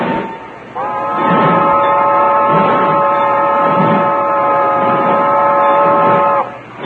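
A steam train rolls along with slow, rhythmic low chuffs while a loud, steady multi-tone whistle sounds for about six seconds before cutting off.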